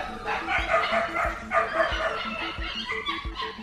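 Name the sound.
dog barking and yipping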